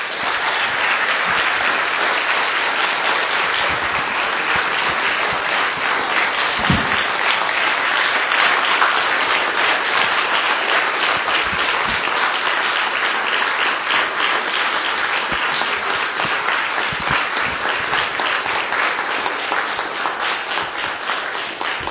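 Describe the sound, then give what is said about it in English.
Sustained applause from a crowd honoring a man for his faithful service as he comes forward, dense and steady clapping at an even loudness throughout, with no voices standing out. “So as he comes forward, I think it's appropriate to give him a round of applause.”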